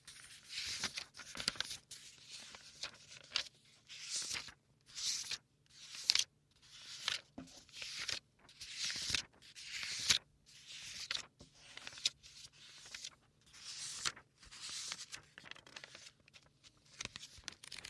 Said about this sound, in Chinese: 喜欢写字的声音吗？